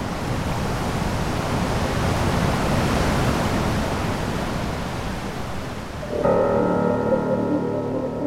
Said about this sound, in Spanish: se puede observar la confluencia entre los ríos Báquer y Neff, un lugar impresionante en el que la potencia de los caudales quita el aliento.